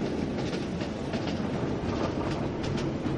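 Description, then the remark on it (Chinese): A moving train rumbles steadily along the rails, with a loud, continuous roar and faint rhythmic clicks of wheels over track joints. No voices. “白发男说完，转身跳出奔驰中的火车厢，转眼就消失在飞逝的景色中。”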